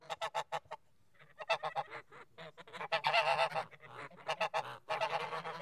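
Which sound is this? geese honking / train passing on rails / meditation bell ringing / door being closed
geese honking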